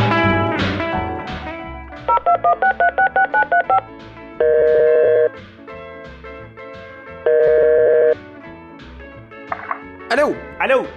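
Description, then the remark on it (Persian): A rapid run of about eight short keypad beeps, followed by two longer held dual tones, as a phone number is dialed. Background noise and voices murmur underneath, with a brief vocal sound at the end. “بیا به اینا زنگ بزن.”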